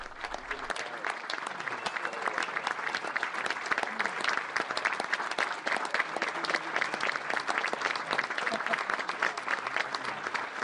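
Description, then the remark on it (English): Sustained applause from a large crowd as Kirsten Gillibrand goes up to the podium to speak, a steady wash of many hands clapping at an even, fairly loud level for about ten seconds, with no break and no voice over it. “After the applause dies down.”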